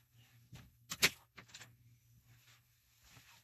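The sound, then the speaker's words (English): An office door is opened with a handle click, a sharp latch clack and a brief creaky rattle, followed by soft shuffling over a low hum. “I'm actually going to open the door because it kind of sounds weird.”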